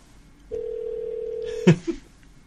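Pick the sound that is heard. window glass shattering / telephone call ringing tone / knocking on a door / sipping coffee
telephone call ringing tone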